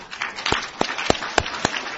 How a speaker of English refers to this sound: Give me some round of applause for the three panelists.